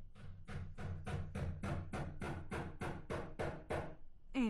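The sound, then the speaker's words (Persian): A steady run of about twelve sharp hammer blows as a neighbour hammers a nail into the wall of their house at 2 a.m., evenly spaced and fairly loud, with no voices. “همسایه جان ساعت 2 بجه شب چکش به دست گرفته و میخ به دیوار خانه خود میکوبه.”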